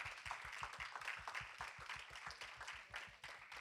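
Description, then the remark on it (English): A crowd claps steadily for several seconds as a hand clap of praise to God for a lesson, many hands blending into a dense, crackling wash of applause with a quick, regular rhythmic pulse running underneath. “Let's give God a hand clap of praise for the lesson.”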